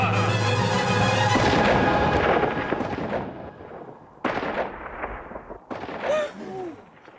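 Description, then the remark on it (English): A loud gunshot, fired at a stuffed bunny, cracks and rolls away in a long, reverberant echo through a tiny town, followed by two more sharp reports that ring out and fade. “And then again, when they like, when the Lord shoots the stuffed bunny towards the end, you hear that gunshot kind of ricochet throughout this tiny town, and people quietly freak out.”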